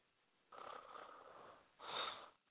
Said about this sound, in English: taking that shit too far, breathing into the goddamn phone.